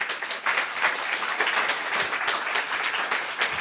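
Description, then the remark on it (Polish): Steady, dense applause from a crowd, given for Jesus, many hands clapping at once in a bright, crackling wash that holds an even loudness throughout with no voices on top. “Czy możemy oddać Jezusowi oklaski?”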